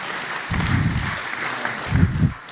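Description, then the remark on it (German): An audience at the end of a talk applauds itself steadily, a dense wash of clapping with a couple of louder swells, sustained without pause for the whole stretch. “Ja, Applaus für euch!”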